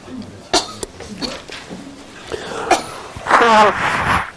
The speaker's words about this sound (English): So blow your nose well.